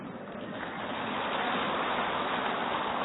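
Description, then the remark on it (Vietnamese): A crowd applauds in a dense, steady wash of clapping that swells a little louder as it goes on, with no voices over it. “Vỗ tay thì to thế.”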